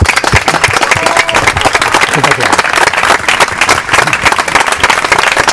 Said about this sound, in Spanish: no veo más que amigos, gente buena, como siempre he visto aquí, y nada, el aplauso es para vosotros, no para nosotros.